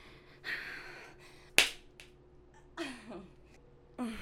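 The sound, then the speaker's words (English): A single sharp, loud smack of a hand on bare buttocks, set among quieter rustling and a few soft breathy vocal sounds. “Okay, slap my ass harder.”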